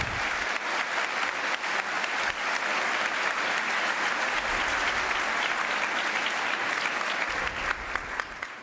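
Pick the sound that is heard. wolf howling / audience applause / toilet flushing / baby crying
audience applause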